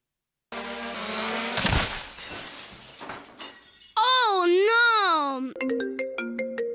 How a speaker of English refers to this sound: What was that? Please hold. My drone hit the window. What have I told you about flying that thing in the house?